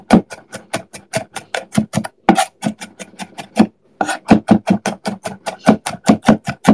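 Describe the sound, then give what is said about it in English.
Rapid, steady knife chops on a cutting board, a fast run of sharp taps with two brief pauses, the sound of fresh, strong garlic being minced. “This garlic's quite fresh, it's quite strong, it's making my eyes a little bit sore.”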